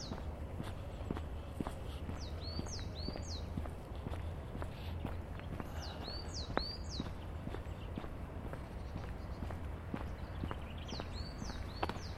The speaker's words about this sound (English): So there's a nice bit of bird song in the cemetery today.